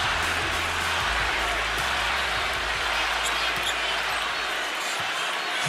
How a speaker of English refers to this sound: By the end of the half, the Orlando crowd was cheering for Irving every time he hit a shot. Jade, play the tape. Chance. Listen to this crowd.